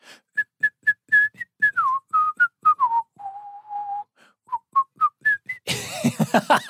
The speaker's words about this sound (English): You can't whistle when you're smiling or laughing, so things have to be really serious.